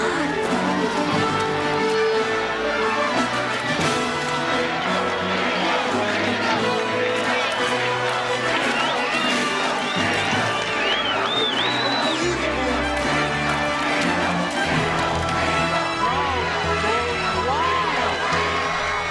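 stadium crowd cheering wildly

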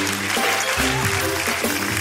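applause

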